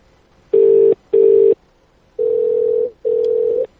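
A US telephone ringback tone: a loud, steady, low-pitched electronic hum in four bursts, two short ones close together, then two longer ones after a pause. Nobody speaks.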